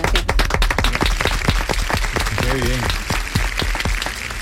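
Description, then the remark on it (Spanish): An audience on a radio show applauds its guests in a steady, dense patter of many hands clapping for several seconds, with a brief voice rising above the clapping partway through. “Bueno, bueno, bienvenidos, daos todos un aplauso.”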